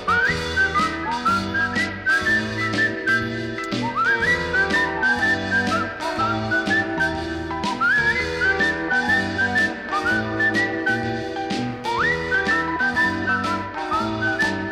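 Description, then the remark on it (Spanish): A bright whistled melody with sliding notes rides over an upbeat rock and roll band, playing steady, loud and up front, with bass and drums driving a bouncy rhythm underneath. “Llevo mis manos en la bolsa y voy silbando mi pegajosa fantasía en rock and roll.”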